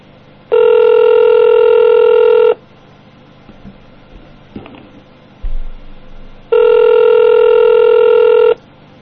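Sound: outgoing phone call ringing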